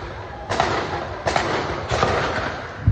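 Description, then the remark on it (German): At Kibbutz Nir Yitzach during an attack, several explosive booms of rockets and Iron Dome interceptor detonations go off in irregular succession, each a muffled burst fading into a steady low rumble, with no voices. “Unablässig hören sie die Raketengeräusche und die Detonationen des Abwehrsystems Iron Dome.”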